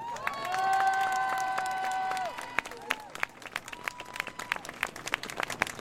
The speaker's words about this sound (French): Alors avant de commencer, j'aimerais qu'on se donne nous-mêmes ce qu'on ne donne jamais, presque jamais, un tonnerre d'applaudissements.